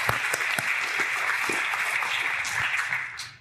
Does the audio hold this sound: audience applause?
yes